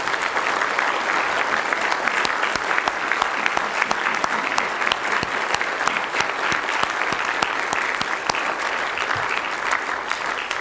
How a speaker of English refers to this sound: Church, if you'd stand with me. And again, if you'd honor these men with a round of applause. Amen.